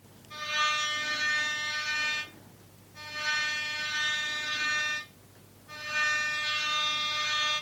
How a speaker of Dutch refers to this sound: We zagen vaak rode reddingsbootjes varen met stoere mensen erin. Ze hadden zwemvesten aan en een rode zwemband met een touw eraan in hun hand. Ze toeterden met grote toeters naar de zwemmers die te ver de zee in waren gegaan.